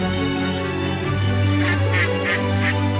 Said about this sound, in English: Can you hear the duck?